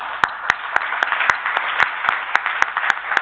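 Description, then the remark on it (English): An audience at a meeting applauds to thank the session chairs, a dense steady wash of clapping with sharper claps punching through at a quick, regular rhythm. No one speaks over it. “So can you join me in an applause, too?”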